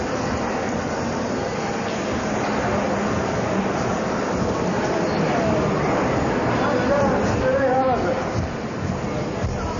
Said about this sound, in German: Unterlegt sind die Geräusche einer U-Bahnfahrt von Baki Sovieti nach Achmedli.